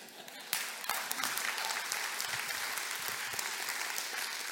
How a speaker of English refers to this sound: How much more should we celebrate? It's a good time for you to join them and clap.